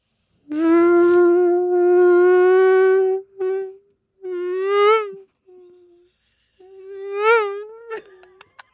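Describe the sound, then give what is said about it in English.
A voice imitates the whine of mosquitoes heard while camping around a fire as the sun goes down: a sustained, nasal, high-pitched drone held for several seconds, then repeated in shorter wavering bursts with slight pitch swoops, with no other sounds. “That's a really good mosquito noise.”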